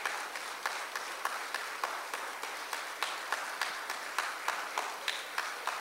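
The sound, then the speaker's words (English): A church audience claps in encouragement for people coming to the altar, a dense wash of applause with sharper claps landing at a steady, fairly quick beat. No voices stand out. “Church, would you give them a hand clap of encouragement?”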